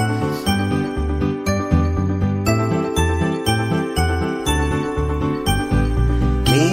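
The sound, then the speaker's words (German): Small bells jingle brightly in a quick, steady rhythm, ringing out a tune over deeper sustained tones, fairly loud throughout, with no voices. “und ich sag, komm, nun geh mal an die Glocken, irgendwie sowas, bis es dann mal anfängt.”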